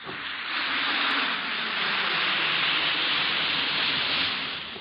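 An Alka-Seltzer tablet fizzes in water, a steady, dense hiss of tiny bubbles that rises quickly, holds at an even level for several seconds, then tapers slightly at the end, with no voices.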